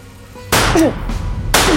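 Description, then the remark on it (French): Two loud gunshots fired into the air from a Smith & Wesson 9 mm pistol, about a second apart, each a sharp crack followed by a rumbling, ringing tail, after a half-second of quiet hiss. “Elle lève son Smith & Wesson 9 mm, presse la détente du pistolet et tire 2 coups de feu en l'air pour s'assurer que l'instrument sait encore jouer de sa musique.”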